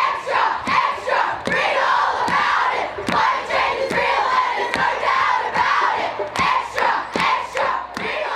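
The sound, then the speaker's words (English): A large crowd at a climate change protest in an Australian capital city, demanding more action on climate change, chants and shouts together, a steady wall of voices punctuated by sharp, fairly regular claps or drumbeats throughout. “Many people in this crowd are pointing to a government commission, which 12 years ago warned if the Australian government didn't do something to radically reduce its greenhouse”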